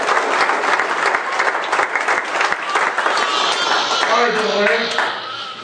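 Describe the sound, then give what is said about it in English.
Sustained applause from a large audience giving Jesus a hand, dense and steady throughout, with a few voices calling out and tonal cheers rising near the end. “Give Jesus a hand of applause.”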